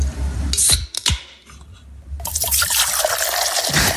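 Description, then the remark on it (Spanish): A drink can cracks open with a sharp snap and short fizzing hiss, then after a brief pause liquid pours steadily and foamily into a glass, fairly loud, with no talking. “Una lata es, evidentemente.”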